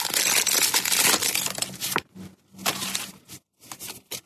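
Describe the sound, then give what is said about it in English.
A Pokemon trading card pack is torn open with loud, crackling foil crinkles for about two seconds, followed by a few shorter bursts of rustling separated by brief silences. No one speaks. “He's opening Pokemon cards.”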